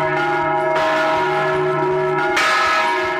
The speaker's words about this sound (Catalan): El fons de la sintonia m'ha d'anar acompanyat de campanes.